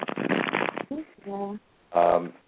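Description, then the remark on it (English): A deck of cards is shuffled for a card reading, a dense riffling burst in the first second, followed by a couple of short voiced sounds from a person. “I'm starting to shuffle for your reading right now.”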